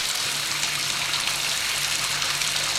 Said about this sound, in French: Surprise d'entendre de l'eau couler au robinet du lavabo.